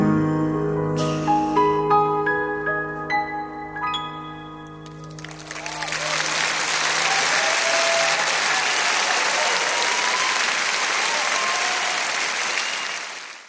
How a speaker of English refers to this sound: Wow, getting a round of applause just for standing up. It's pretty good, huh?